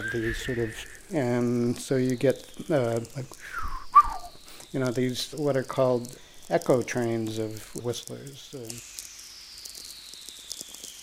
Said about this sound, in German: Diese Whistlers werden Echo Train genannt.